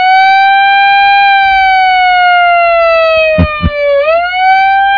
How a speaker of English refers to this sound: You might have to give her the siren.